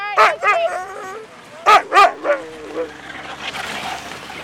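A sled dog team barks and yips in excited bursts as it takes off from Manly, a few quick high-pitched yelps close together, then the calls fade into faint outdoor background noise.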